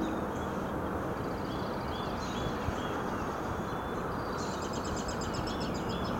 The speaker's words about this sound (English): the symphony of birds